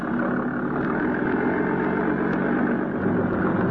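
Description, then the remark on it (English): A steady, droning motor engine runs continuously, a dense rumbling hum with no pauses or voices, as a motorboat shoves off from the waterfront. “My boat was all ready, so I went aboard and shoved off.”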